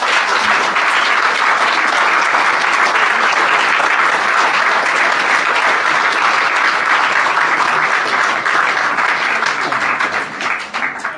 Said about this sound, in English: And John, I'm sorry John's not here. He deserves all the applause that we can give him.